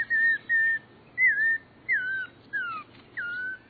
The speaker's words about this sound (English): Nearby, an Audubon's oriole seems to sound like a child just learning to whistle.